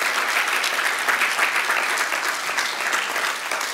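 An audience applauds God steadily, a dense wash of many hands clapping at an even loudness for several seconds with no voices standing out.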